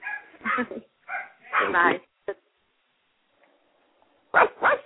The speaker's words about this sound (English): I know, you hear my dogs? Oh, okay. yeah. Your dogs? Yes. And dogs. I have Yorkies. I have an Italian Greyhound and a Boston Terrier.